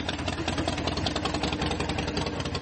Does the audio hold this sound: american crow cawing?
no